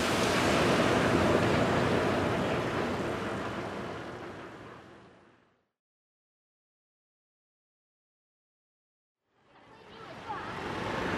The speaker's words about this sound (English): All right, well, that didn't go too bad. The rain did not go away, but it sort of stayed at a dull roar.